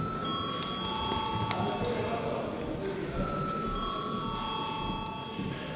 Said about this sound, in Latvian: Paldies, lūdzu zvanu.